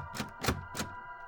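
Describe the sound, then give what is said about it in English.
Somebody starts to open a door: three sharp clunks of a latch or handle at an uneven pace, rattling briefly over a faint steady hum, with no voices. “Somebody started to open the door, and John didn't know what to do.”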